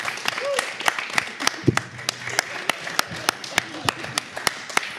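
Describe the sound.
Applause made of sharp, steady claps at an even, brisk pace, about three per second throughout, with faint murmuring voices underneath.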